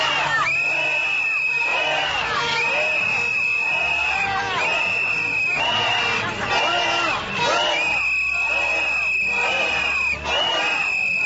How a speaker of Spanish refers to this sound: Con cantos y rezos, creyentes católicos y cristianos pedían a gritos la renuncia de la funcionaria.